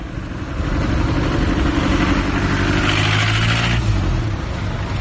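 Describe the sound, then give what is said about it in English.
The engine of a 1950s car in Havana, Cuba, rumbles loudly, revving with a rising, throaty pitch before easing back toward an idle; no voices are heard. “Like the 1950s cars in Havana, the leaders and ideologies of Fidel Castro's communist revolution have aged.”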